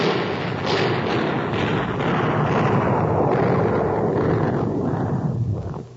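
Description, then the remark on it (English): A battle sound effect: a continuous, dense roar of gunfire and booming explosions, loud and unbroken for several seconds, with repeated sharp bursts rising out of the rumble before it cuts off. “Stop all that dreadful shooting, old man. All right, wait a minute. Let me kill the sound effect here.”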